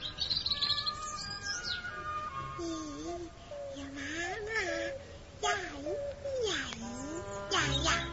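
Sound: small bird chirping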